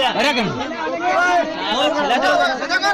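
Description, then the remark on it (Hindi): A frenzied mob taking the law into its own hands, armed with sticks and clubs and rampaging through the streets, shouting: many overlapping raised voices forming a dense, agitated roar that stays loud and continuous with sharp yells bursting out above the din. “ये आवाजें हैं एक ऐसी ही उन्मादी भीड़ की जो देश के किसी हिस्से में कानून हाथ में लेकर अपने शिकार को खुद सजा दे रही है।”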